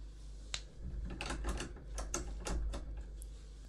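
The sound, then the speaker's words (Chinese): A key rattles and clicks in the lock of an office door, a quick series of sharp metallic ticks and scrapes, then a latch gives and the office door opens, all quiet over a low steady hum. “办公室关门了，没关系，还好我有钥匙。”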